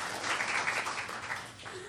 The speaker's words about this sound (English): Yeah, you can give it a round of applause for that. Excellent.